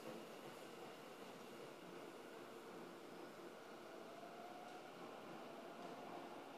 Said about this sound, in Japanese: 回送電車が発車します。ご注意ください。